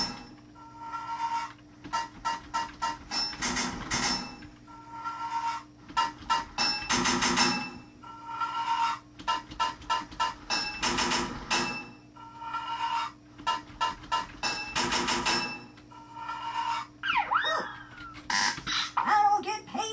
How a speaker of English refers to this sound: 5 pipes in your toolbox. 12 total pipes to fit this level. 4 hits of a hammer to fit a pipe.